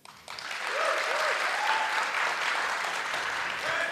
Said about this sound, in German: Das würde ich gerne mal als Publikum auch mal. Also einmal, wir machen das mit Applausometer. Einmal kurz Milch.